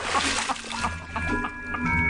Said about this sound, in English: And there he is, splashing the water on his face.